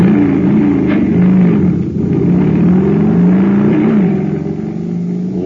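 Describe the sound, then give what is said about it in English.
A jet cycle engine, supercharged with super fuel, roars to life and keeps revving loudly and steadily, its buzzing pitch wavering up and down throughout, with no one talking over it. “But pour in some super fuel, and you get a super start, like this.”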